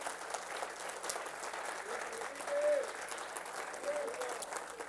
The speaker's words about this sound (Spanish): ¿Cuántos dicen amén? Ahí podemos darle un aplauso al Señor.